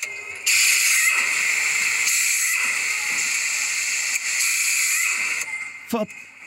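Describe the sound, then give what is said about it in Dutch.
A hydraulic sunroof opening and closing in an XJ car, recorded in a video: a loud, steady hiss lasting about five seconds, with a low mechanical whir that repeatedly sweeps downward beneath it, then a sharp click as it stops. “Je hoort een hydraulische. Er gaat een schuifdak open en dicht in een XJ op een filmpje.”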